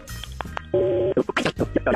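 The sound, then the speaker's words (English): A phone call placed on KDWB radio: a few quick telephone keypad beeps, then a steady, moderately loud phone tone holding for under half a second, followed by a busy run of short, choppy bursts. “On KDWB, let's make the phone call.”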